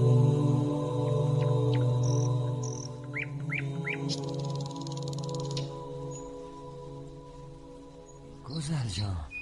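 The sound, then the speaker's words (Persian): Canaries chirp in short, bright bursts at night, then break into a quick buzzing trill, fairly soft and set against a steady low hum that fills the background. “نگاه کن قناری ها میگی امشب خواب ندارن، مدام میخونن.”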